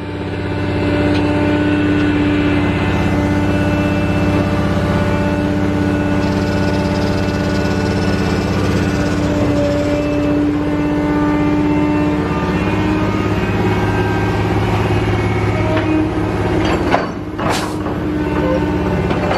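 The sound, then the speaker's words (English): A full dump truck loaded with pulled-up water lilies idles and rumbles loudly and steadily as it comes to unload, a deep droning hum that holds throughout, with a brief clank near the end. “And you'll see that dump truck is already full, coming to unload it.”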